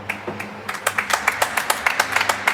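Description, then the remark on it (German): A studio audience claps to vote that a free kick should have been given, a run of sharp, fairly steady hand claps at moderate volume over a faint low hum, with no one speaking. “Also dann fragen wir mal die Zuschauer hier bei uns. Jetzt Beifall klatschen, wenn es Freistoß hätte geben sollen.”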